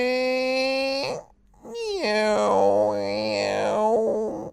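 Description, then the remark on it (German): A cartoonish hungry stomach rumble from a dinosaur in a children's story, who holds his big belly after football practice: a steady droning groan, a short pause, then a longer warbling growl whose pitch bends up and down before trailing off. It is fairly loud, with no talking. “Der hält seinen großen Bauch mit beiden Händen fest und lächelt. Hast du etwa Hunger?”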